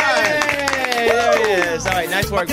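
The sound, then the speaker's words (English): Several people clap their hands for the day's winner in quick, uneven bursts, the sharp smacks layered over cheering voices and a busy, tonal background. “Clap your hands, everybody.”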